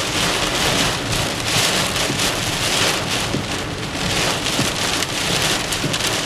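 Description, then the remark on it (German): Heavy rain from a cloudburst pounds steadily on the roof of a car driving slowly through the Ajoie region of Switzerland, a dense, loud drumming wash that never lets up, with no voices and occasional sharper drops standing out from the roar. “Jetzt, wo wir 60 Jahre später im Auto quer durch die Ajoie fahren, hören wir zuerst einmal nur ein Eisgeräusch, nämlich wie der Regensturm aufs Autodach runterbretscht.”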